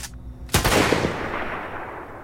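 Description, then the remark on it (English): A rifle shot sound effect from freesound.org cracks out loudly and suddenly after a brief quiet hiss, then trails off in a long, rumbling decay with a faint follow-up crack or two inside the fading tail. “From a sound design standpoint here, the drone and the rifle sounds both came from freesound.org.”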